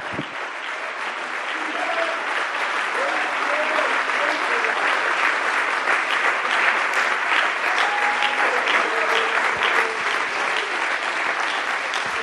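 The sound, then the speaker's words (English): Loud, sustained applause from a large crowd for a man at a preaching service, a dense continuous roar of clapping at steady volume throughout, with faint cheers and voices woven into it. “Would you lay the Bible down and give him another thunderous round of applause?”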